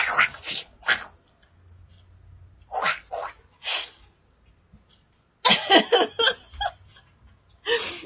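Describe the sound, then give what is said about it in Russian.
A person imitates a dog's snarling and growling with harsh, breathy bursts, coming in three fierce clusters separated by brief pauses, the last one the longest and most intense. “Моя собака выскочила со своей лежанки и прибежала посмотреть, что я тут изображаю.”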